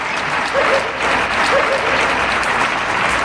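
Steady clapping from a small group, a family applauding the doctors from their terrace, fills the whole stretch, dense and continuous, outdoors, with a faint cheer or voice briefly rising above it.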